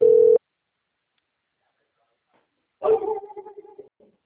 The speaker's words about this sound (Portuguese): Espera só um minutinho, moça, que eu não estou te ouvindo, porque o cachorro está latindo aqui.